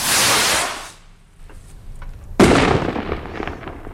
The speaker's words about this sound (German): Das Jahr 2015 ist schon bald Geschichte und wird an vielen Orten mit einem grossen Feuerwerk verabschiedet.